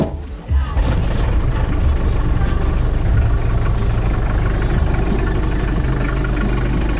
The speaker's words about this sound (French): Le camion est parti. Bonne route.